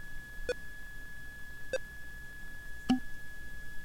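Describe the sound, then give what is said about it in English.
Three short electronic beeps sound at a steady pace about a second apart over a faint constant whine, the last one slightly higher and sharper, as an audiobook file transfers to a Bookport Plus player; the higher the beep, the closer the file is to done. “So the high beep means that that file is almost done. The higher the beep, the closer the file is to being done.”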